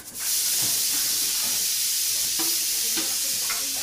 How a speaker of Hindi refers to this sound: दिल्ली के भोगल की तंगलियों में एक घर के दूसरे मंजिल से प्रेशर कुकर की सीटियों की आवाज आ रही है, खाना पक रहा है, खुशबू दूर तक आ रही है।